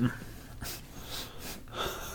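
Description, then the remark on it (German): A dog held in someone's arms whimpers softly, a few short, wheezy, breathy bursts with snuffling breaths between them, quiet and with no talking. “Du hast einen Hund auf dem Arm.”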